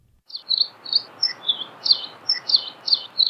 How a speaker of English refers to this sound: we have the song of the Nihoa finch, which are endemic to Nihoa Island in the Northwest Hawaiian Islands and found nowhere else in the world.